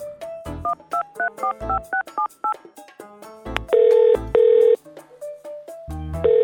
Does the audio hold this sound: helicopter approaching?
no